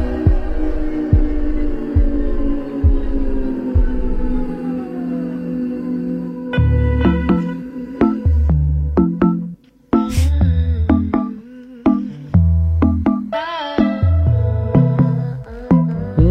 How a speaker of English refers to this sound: She shared a preview of a new song to her socials.